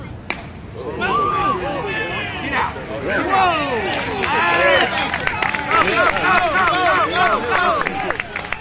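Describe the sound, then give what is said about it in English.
A vintage baseball crowd cheers for the Nashville Maroons, who are playing a vintage team from the nearby town of Franklin. The cheering goes on steadily for about eight seconds, with many overlapping voices rising and falling in a loud, excited din and no single voice standing out. “This crowd is cheering for the vintage team from Nashville called the Nashville Maroons.”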